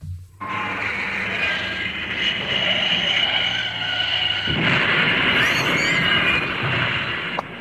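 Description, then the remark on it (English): An oncoming tractor on a high street, driven by Harry Maguire: its engine roars loudly and steadily over a deep rumbling hum, its tone shifting harder about halfway through, with a thin rising whine briefly cutting in near the end. “Pearson sprints out of the bistro and straight across the high street, straight into the path of an oncoming tractor.”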